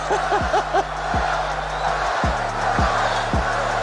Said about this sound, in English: Let's see what happens as the crowd chants Spud. It's like the Olympics.